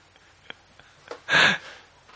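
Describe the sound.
A voice imitates a water drip, made by hitting the head while blowing air out of the mouth: a few faint, evenly spaced taps, then one louder breathy burst with a brief pitched ring that quickly fades. No talking.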